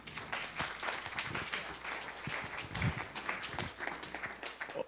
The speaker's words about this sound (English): Applause, applause.